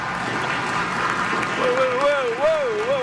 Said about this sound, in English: Whoa. A lot of applause. Yeah, they're Democrats. They're Democrats there.